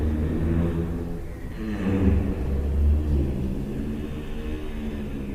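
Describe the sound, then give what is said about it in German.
Giraffes humming at night, recorded in European zoos: a low, droning, harmonic hum that carries on for several seconds, wavering slightly in pitch and swelling a little midway, with no voices present. “Und die überraschende Entdeckung kam dann bei den Nachtaufnahmen, als wir dieses nächtliche Summen der Giraffen entdeckt haben.”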